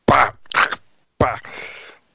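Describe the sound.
A voice imitates choking on something stuck in the throat: three harsh, raspy throat-clearing bursts, the last one a longer strained rasp, loud.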